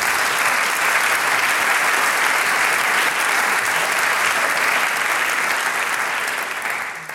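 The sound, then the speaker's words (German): Loud, steady applause from a crowd for a music group that played for them, a dense unbroken patter of clapping that holds for several seconds and begins to fade right at the end. “Applaus!”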